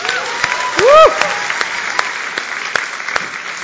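An audience applauds the band after a worship set, a dense wash of clapping with a few sharper individual claps, and a brief rising whoop of a cheer near the start.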